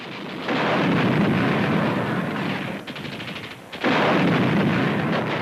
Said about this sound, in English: the Reich Chancery Garden being subjected to constant explosions caused by Soviet shellfire?